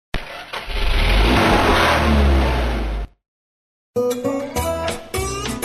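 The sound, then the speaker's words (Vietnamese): A car engine roars and revs steadily for about three seconds as the vehicle starts to move off, then cuts to silence before a burst of busier, rhythmic sound with distinct tonal bands resumes. “chỉ biết lúc bố nói Amen là tôi mở mắt ra, sẵn sàng nuốt khung cảnh bên đường ngay từ lúc xe bắt đầu chuyển bánh.”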